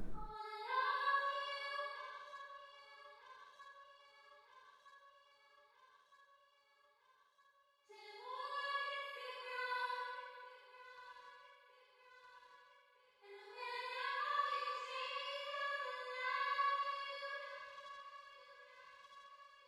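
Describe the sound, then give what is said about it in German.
A very wide delay (echo) effect with heavy reverb, heard alone with the dry signal turned off and the effect signal turned up, on a bright harmonic tone: three long swelling phrases, each trailing into repeating, fading echoes that smear together into a sustained wash, with no voices present. “Und dann eben auch noch so ein Delay, was quasi ein Echo ist. Einfach sehr weit. Alleine klingt es dann so.”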